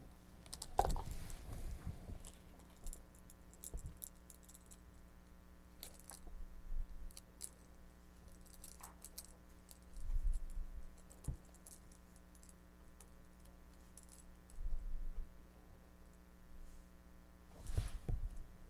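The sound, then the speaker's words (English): Colored keys, one of them yellow, jangle and clink in short, scattered bursts as they are handled, with quiet pauses between the bright metallic rattles and no talking. “What color are these keys?”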